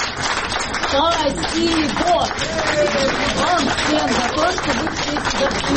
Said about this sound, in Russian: Вышедшую к собравшимся у здания суда … встречали аплодисментами. Она в ответ поблагодарила за поддержку.